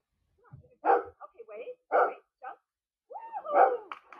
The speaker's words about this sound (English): Our dog, Oscar, here he is, right here. He was almost 15 years old when he became ill, and he was suspended, put in cryonics.